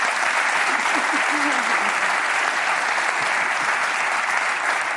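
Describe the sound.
An audience applauds steadily throughout, a dense, unbroken wash of many hands clapping at even loudness, with a faint voice briefly murmuring underneath early on.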